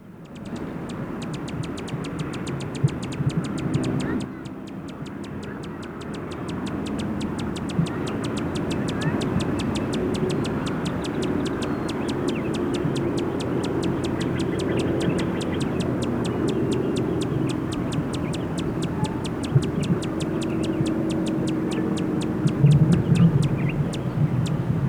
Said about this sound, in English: The name of the bush where it is staying is Duranta Plumieri. Time now is 2:25, and those were sounds of a male Allen hummingbird.